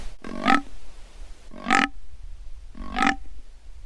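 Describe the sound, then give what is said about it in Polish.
A fallow deer buck's rutting groans, produced from the larynx during the mating season as it moves its head up and down: three loud, deep, rasping belches, evenly spaced a little over a second apart. Each is short and throaty, with quiet in between and no voices. “Z ich krtani właśnie wydobywa się ten bek.”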